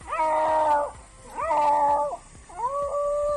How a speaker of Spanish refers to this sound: Este era el momento en el que el gato volvía a maullar para alegría de los bomberos. El gato, que se encontraba escondido debajo de la cama, ha gastado sin duda una de sus 7 vidas.